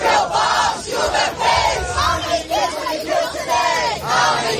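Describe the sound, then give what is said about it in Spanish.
A group of about 50 young people carrying Palestinian flags shouts the protest chant "no pararemos, no descansaremos" ("we won't stop, we won't rest") in unison, interrupting a University of Michigan graduation ceremony. The chant is loud and sustained, with voices rising and falling in a repeated rhythmic cadence and no pause in the noise. “Se ha visto interrumpida a gritos de "no pararemos, no descansaremos" por un grupo de 50 jóvenes que portaban banderas palestinas y que pedían a esa universidad que se desvincule de sus intereses israelíes.”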